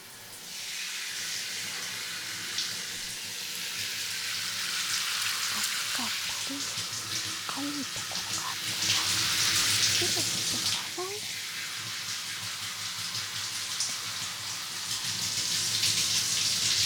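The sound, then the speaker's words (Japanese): Shower water sprays in a steady, broad hiss that swells and shifts as the stream moves, running for the whole stretch. Faint voice sounds murmur underneath partway through. “シャワー、失礼させていただきまーす。”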